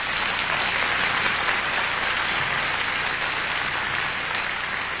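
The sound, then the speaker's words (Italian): A concert crowd claps steadily for a soprano singer in a dense, continuous wash of applause that holds an even loudness for about five seconds, with no voices standing out. “And I want to have some extra special applause for this next young lady, because she sings all those very high notes.”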